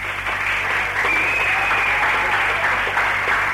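Steady, dense applause from an audience at the Coliseum during Radio Dublin's live 22nd birthday broadcast, for Tony Quinn and Dave Felton on stage; a continuous wash of clapping hands at even loudness throughout, with no voices rising above it.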